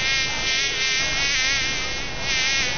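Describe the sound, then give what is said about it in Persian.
A housefly buzzes in a steady, unbroken drone, its pitch wavering slightly as it hovers. No voices or other sounds accompany it. “خو مگز جان، گاهی وقتم شده که یک چشم آرام خو کده باشی، چرا که همیشه در گشت هستی؟”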